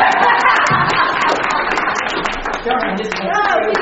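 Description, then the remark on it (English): People at an annual meeting applauding, a dense patter of many hands clapping steadily for a few seconds, with scattered voices and chatter mixed into the noise. “So now you can applaud.”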